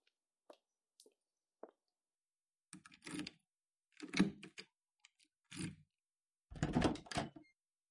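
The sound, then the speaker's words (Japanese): A key clicks into a lock with a few sharp taps, followed by louder rattling clunks as the lock turns and a door is pushed open, with no talking. “今、鍵を開けます。”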